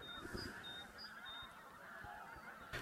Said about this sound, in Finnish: Noin, siellä hanhet lentävät. Muutamia hanhia ilmatilassa. Mutta nyt lähdetään antaa hanhien olla ilmatilassa.